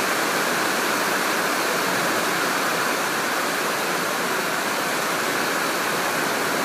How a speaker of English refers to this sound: Anybody here saw me doing this and thought that I was recording the rain, they'd probably think I was crazy. There are parts of the world that would love to get this sort of rain.